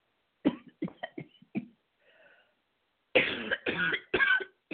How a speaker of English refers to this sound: But anyway, excuse me, there goes that cough I tried to hold back.